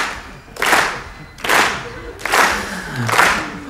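A concert crowd in Paris claps along to a song in unison, four loud, broad bursts of clapping landing at a steady, even tempo, with no talking over them.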